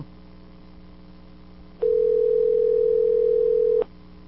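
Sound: telephone dial tone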